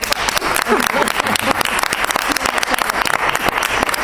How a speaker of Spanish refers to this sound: Vamos a aplaudir todos los que estamos, medios de comunicación, políticos, técnicos del ayuntamiento, para que usted vea que es la premiada. ¡Un aplauso!